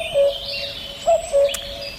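bird, common cuckoo call

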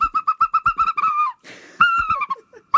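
bird, herring gull calls

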